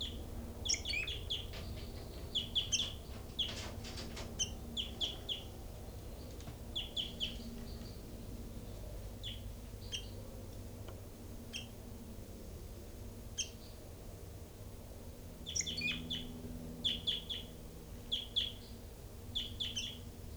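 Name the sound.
caged birds calling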